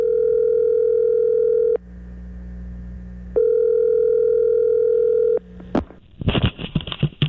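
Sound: telephone call ringing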